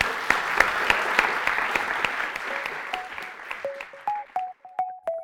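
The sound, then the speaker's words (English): An audience applauds to thank the speakers at the end of a discussion event, a dense, steady patter of many hands clapping that gradually thins out, with a few faint pinging tones rising through the fading claps toward the end. “Please join me in thanking our speakers.”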